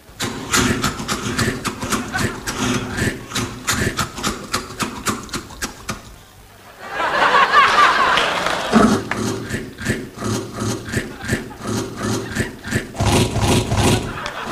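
Rhythmic crunching bursts of Cap'n Crunch breakfast cereal played as percussion on The Tonight Show over a low droning tone, briefly dropping out midway before a noisy swell and the steady crunching beat return.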